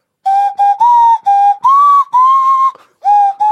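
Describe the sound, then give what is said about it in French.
A nose whistle is blown, with breath through the nose and the mouth acting as a resonating chamber. It gives a breathy, pitched tooting in a quick series of short and longer notes, each slightly bending in pitch, fairly loud with brief gaps between blasts. “C'est un sifflet à nez, ça.”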